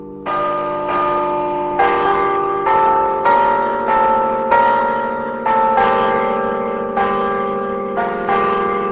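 Carillon bells at Berkeley ring out a melody, each note striking roughly every half second in a steady sequence, ringing tones overlapping as they decay; loud and resonant with no voices.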